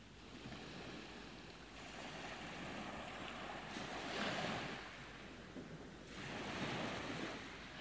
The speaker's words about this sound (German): Du spürst jede Welle, die sanft vom Wind herangetragen wird, dich umspült und wieder in die Weite des Meeres zurückfließt.